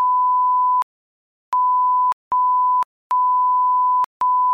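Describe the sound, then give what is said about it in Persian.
A steady mid-pitched censor beep tone sounds in five bursts of uneven length, some long and some short, separated by brief silent gaps, with no voices. “اول محمد جان چند تا بوق بذارم و چند تا حرف رکیک بزنم.”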